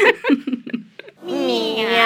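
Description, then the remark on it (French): A human voice on Radio Saint-Afrique imitates a cat, giving several short, quick meow-like calls and then one long, drawn-out meow whose pitch wavers. It is fairly loud. “Miaou. Miaou, miaou, miaou, miaou.”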